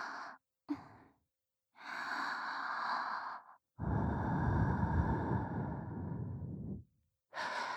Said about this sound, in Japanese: お前、吐息も好きなんだったな。吹きかけてやるからな。